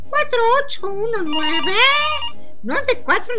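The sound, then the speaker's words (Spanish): A melodic electronic telephone ringtone plays loud, several bright warbling tone bursts with a short pause before the final repeats. “A través del teléfono.”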